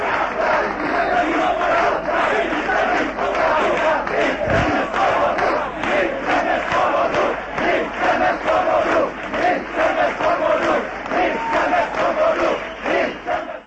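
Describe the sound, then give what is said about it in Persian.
A large crowd of about 10,000 protesters against communist rule in Prague shouts and chants together for freedom in loud, rhythmic bursts that rise and fall steadily, many voices blending into a continuous roar with repeated pulsing cries throughout. “معترضان فریاد می زدند که آزادی می خواهیم.”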